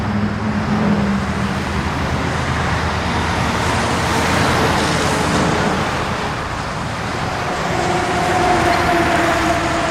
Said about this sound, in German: 13.000 Lastwagen werden jeden Tag über die Autobahn donnern. Viele Menschen, die hier wohnen, wollen deshalb, dass die Autobahn nicht gebaut wird. Sie haben Angst, dass sie nachts nicht mehr schlafen können, weil die Autos so laut sind.